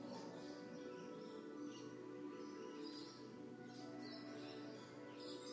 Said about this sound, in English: Notice the birds.